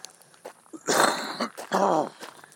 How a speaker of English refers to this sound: No, I don't think I've got cancer or anything because I've had a cough for a few days. Like that.